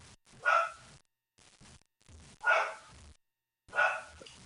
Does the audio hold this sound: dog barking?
yes